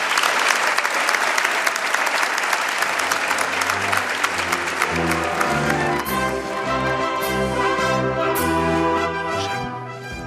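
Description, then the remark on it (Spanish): Loud, dense applause from an audience at a religious brotherhood (hermandad) event fills the opening seconds, then fades as music with a steady bass line rises and takes over. “Por lo que deseo que a ellos, que son los verdaderos merecedores de gloria y honra, les sea dedicado por ustedes un fuerte aplauso.”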